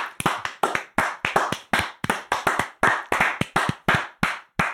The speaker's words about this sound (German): So, dieses Klatschen war für euch, liebe Hörer, weil ihr Klatschen wahrnehmen könnt und nicht die Rewe-Verkäufer oder Pflegekräfte.